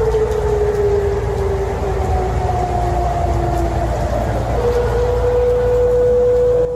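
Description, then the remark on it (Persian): A sustained civil defense red alert air raid siren wails steadily for about 15 minutes, its pitch slowly gliding and shifting, over a constant low rumble of city noise in western Tehran on a Friday evening. “به دنبال پخش صدای آژیر قرمز در غرب تهران، مقام‌های حکومتی با تأخیری حدوداً یک ساعته با اظهاراتی ضد و نقیض دلایل متفاوتی برای به صدا درآمدن آژیر خطر اظهار داشتند.”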